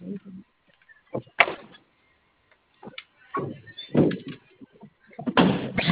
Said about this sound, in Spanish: Ay, visita, ¿me ayudas a hacer una prueba con el perno? Es que como le cambiaron la placa de la puerta, la que se dañó, la 108.